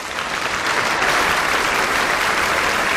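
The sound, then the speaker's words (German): Steady, dense applause from a large crowd of people applauding the Pope during his speech, many hands clapping together in a continuous loud wash of sound with no voices standing out. “Rief der Papst unter dem Applaus der Menschen.”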